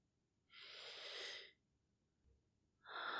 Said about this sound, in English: Just scrunch them up against my nose so I can take a sniff. Oh. Oh, there you go. Good boy. And I'm just going to give them a quick sniff.